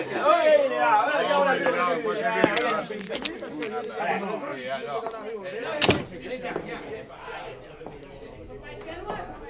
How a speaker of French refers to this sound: Tiens, une porte qui s'ouvre.